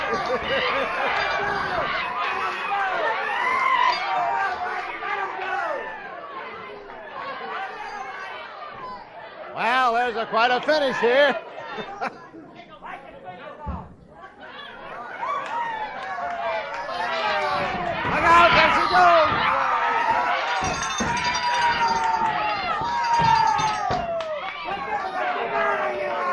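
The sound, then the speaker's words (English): A loud, dense crowd at a women's fight roars, cheers and shouts continuously, swelling in bursts with scattered whistles, while a commentator talks over the din. “Brought the crowd up, cowboy.”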